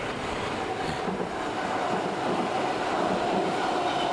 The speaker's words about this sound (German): Dafür kommt jetzt gleich eine S-Bahn von links.